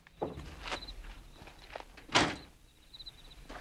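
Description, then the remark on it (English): Footsteps as Gittes strolls over to the chain link fence of the Oak Pass Reservoir at night, walking at an unhurried, steady pace, about five distinct steps, with faint high-pitched chirping drifting in and out in the background. “He strolls over to the fence.”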